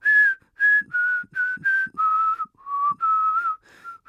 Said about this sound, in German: Ja, die Melodie, die kennt ihr jetzt sicher nicht, weil es war gar keine richtige Melodie, es war nur schräges Gepfeife von mir.